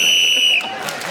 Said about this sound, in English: Clement Freud was then speaking as the whistle went, gained that extra point for doing so.